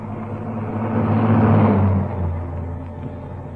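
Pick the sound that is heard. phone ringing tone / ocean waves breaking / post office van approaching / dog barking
post office van approaching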